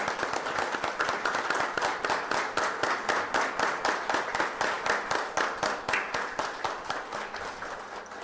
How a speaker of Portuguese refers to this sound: E eu gostaria de pedir à mesa e ao plenário uma salva de palmas para que esta pessoa possa ter também vida longa.